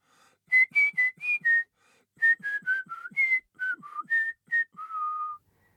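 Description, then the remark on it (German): A person whistles a clear tune in two short phrases of quick separate notes, pausing briefly between them and ending on a long held note. “In Rudeln versammeln sie sich in Hörsälen und lauschen gespannt dem durch alle Markscheiden ziehenden Pfeifen des sich nähernden Leitwolfs.”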